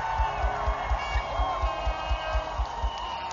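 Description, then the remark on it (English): An audience claps and shouts together for the Lord in a dense, continuous roar of voices, over a steady thumping beat of about four pulses per second. “Give the Lord a clap. Give the Lord a shout.”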